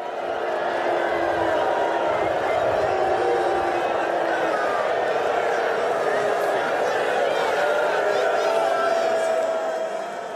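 A large crowd booing a player, Andrew, sitting on the bench, in a steady, unbroken roar that stays loud for the full ten seconds, a dense wash of many voices with no clear pauses and no single words.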